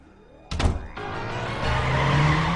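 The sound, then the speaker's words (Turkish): A red convertible car rolls up in front of the Orpheum Theatre with a sharp thunk near the start, followed by steady engine and tire noise that swells louder as it brakes. No voices. “Dave üstü açık kırmızı arabasıyla Orfeum Tiyatrosu'nun önüne geldi.”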